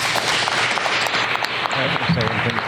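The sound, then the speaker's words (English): An audience applauds for a group of speakers, a dense, steady wash of many hands clapping at an even loudness for a few seconds, with a few faint voices mixed in toward the end. “So how about a round of applause for this group?”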